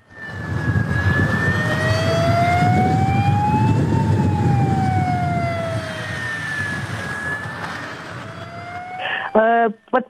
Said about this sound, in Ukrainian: Начались учения с работы системы оповещения, и в городе раздались звуки сирены.